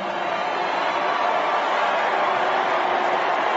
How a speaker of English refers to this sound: Then Steny Hoyer, who's the House Minority Whip, he gets booed. He says, we're here to nominate Hillary, and things go wildly wrong. He's on the floor of the convention.